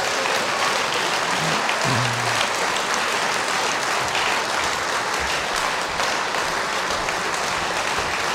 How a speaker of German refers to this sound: Und meine Damen und Herren, ihm gebührt der Beifall des Tages. Applaus.